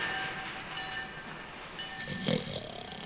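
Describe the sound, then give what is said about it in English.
A train rumbles at a railroad station on the outskirts of town, steady, with thin sustained whistle-like tones threading through the noise and a brief louder burst near the end. No one speaks. “On the outskirts of town, Frosty and the kids march in single file to a railroad station.”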